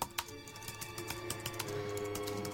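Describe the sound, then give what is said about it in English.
Rapid, irregular clicking of keys on a computer keyboard as a young man types code into a document in his bedroom at night, quiet, over a steady low background hum with no voices. “He's hacked into the computer of Sedum High School, bypassed the firewall, and is typing code into a document.”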